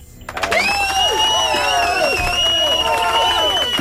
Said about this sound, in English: That's the crowd they're cheering you on.